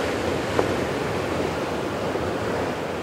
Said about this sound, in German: Da hinten braust das Meer. Es ist eigentlich schon tiefe Nacht.